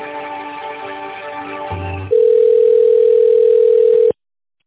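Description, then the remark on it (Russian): A phone line hums with layered tones, then a short low buzz, followed by a steady, loud single-pitched connecting tone lasting about two seconds before cutting off abruptly. “Я думал, что нам не надо, но давайте соединим на всякий случай.”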